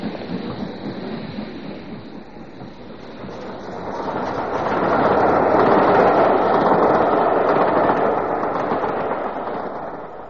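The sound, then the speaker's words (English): A train rolls along the rails with a steady rumbling roar that swells louder midway, its wheels beating out a regular clickety-clack rhythm. No voices, just the continuous rush of the moving carriages. “If it's the Glasgow train you want, you missed it.”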